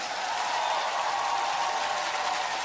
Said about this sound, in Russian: Сегодня аплодисменты, безусловно, Юрию. Давайте погромче, друзья!